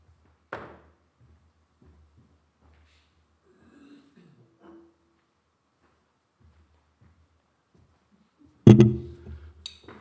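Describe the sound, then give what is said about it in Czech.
A glass jar is handled, with a sharp clink near the start, quiet shuffling, then a louder rattling clatter toward the end. No one speaks. “Dejme tomu, že to je náš život, ta sklenice.”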